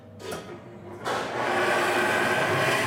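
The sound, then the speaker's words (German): Steam hisses into a steam baking oven at 230 degrees holding a tray of Kunigunde rings, pastry rings sprayed with water for shine: after a brief muffled rush, a loud, steady, bright hiss bursts in about a second later and keeps going to the end, with no talking. “So, und jetzt wird es gleich etwas zischen.”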